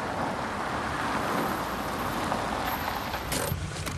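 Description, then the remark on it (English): A car rolls steadily along a country road with a continuous, even rumble of engine and tyre noise, then a few brief crisp crunching sounds near the end as it indicates and turns into a drive by a large house. No one speaks. “The car indicates and turns into a drive by a large house.”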